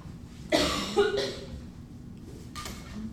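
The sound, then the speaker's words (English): A loud burst of coughing: two harsh coughs in quick succession, followed after a pause by a softer third cough, with no talking. “I think I might have to fill my water bottle. I don't want to cough on it.”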